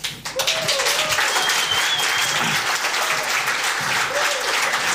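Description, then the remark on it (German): A crowd claps steadily as applause for someone sitting down, a dense, sustained wash of applause that stays loud and even for the whole stretch, with a few faint voices and whistle-like tones mixed in. “Applaus fürs Hinsetzen, das erwarte ich eigentlich erst so ab 75 plus.”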